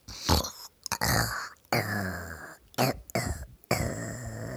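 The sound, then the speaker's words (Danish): A voice imitates a puma snoring with several rough, rasping breaths, each a gravelly snort followed by a brief pause, repeating in an uneven rhythm at moderate loudness. “Hør, hvor den snorker, sagde politiet.”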